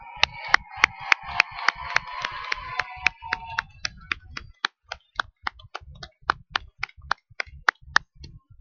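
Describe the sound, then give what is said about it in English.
Applause for the talent acts at an FFA talent show: crowded, uneven clapping with some voices at first, then thinning out into a steady, evenly spaced run of single sharp claps until the end. “Once again, let's give all of our talent acts another round of applause.”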